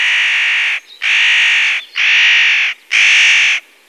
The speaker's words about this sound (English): Winter. The nutcracker comes, looking for the hazelnuts, which the birds stored in the autumn.